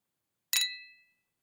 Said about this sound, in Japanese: さ、グラスもどうぞ。私たちの夜に、乾杯。